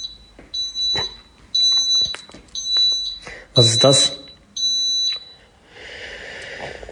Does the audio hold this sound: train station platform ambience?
no